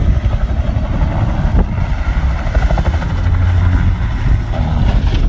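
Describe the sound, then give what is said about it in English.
A loud, steady helicopter roar with a deep throbbing rotor chop and rumbling low end, from a cell phone video of a helicopter crashing into the Hudson River, continuous throughout with no voices and no distinct impact or splash standing out. “A helicopter crashed into the Hudson River.”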